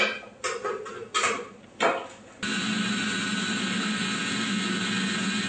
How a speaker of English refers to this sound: Now, depending on the kind of blender that you have, it might leave it slightly chunky. This one still leaves it with a little bit of texture.